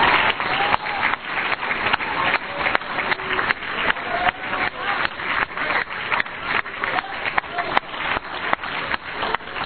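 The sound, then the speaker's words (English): An audience claps steadily for the Life Tabernacle church, a dense, continuous wash of many hands with a slightly rhythmic pulse, loud and sustained, with no voices standing out. “Give this good church a hand clap.”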